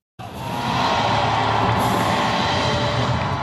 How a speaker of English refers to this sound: A huge crowd in central Taipei welcomes the man who will be Taiwan's next president.